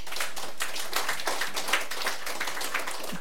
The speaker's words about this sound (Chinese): 给上帝一个掌声好吗？